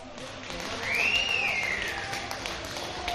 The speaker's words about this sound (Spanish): Yo tengo una amiga que trabaja en Mercamadrid y me pasaba este vídeo y se están animando también así todos los días. Hombre, con ese gran aplauso. Es que son héroes toda esa gente.